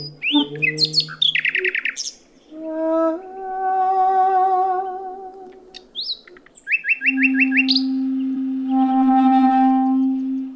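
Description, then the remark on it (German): A nightingale sings loud, alternating rapid chirping trills with long, pure whistled notes and sustained swelling tones, with no voices. “suchen die Nachtigallen gerade Berlin auf, um mit den mannigfaltigen Klängen dieser Großstadt in einen Wettstreit zu treten, wie beim lautlichen Markieren des eigenen Reviers anderen Nachtigallenmännchen gegenüber.”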